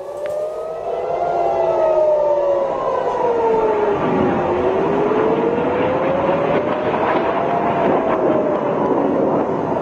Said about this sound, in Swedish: Ja, som vi hör här under natten så ljöd nya flyglarm och explosioner hördes över centrala och norra Israel.